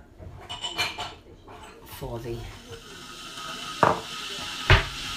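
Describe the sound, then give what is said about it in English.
A metal pan rattles and scrapes on a hob while cooking oil heats up in it for fried bread, then two sharp clanks ring out near the end over a low, steady background hiss. “I'm just heating up the oil”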